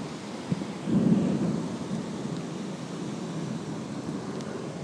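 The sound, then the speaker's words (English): A low roll of thunder rumbles up about a second in during a storm, swelling briefly before fading into a steady wash of wind and rain noise that continues to the end. “can probably hear that wind and the thunder.”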